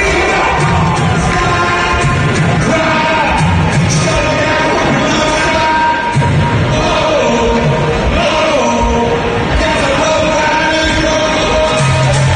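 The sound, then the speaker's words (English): A country version of a song, performed by a country music singer, plays over a stadium sound system at a game. Its sustained tones blend into a steady wash of crowd noise, with barely a smattering of scattered applause and a few shouts throughout, loud and continuous. “to have some random country music guy perform a country version of the song?”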